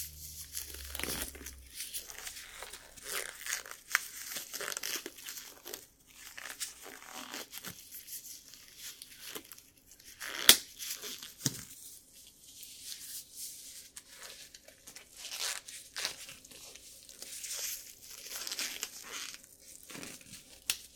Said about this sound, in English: Hear that? That's coming from the gloves. And I really clench my fists a little. I just clench them and little air pockets just burst out of the rubber, making that soft.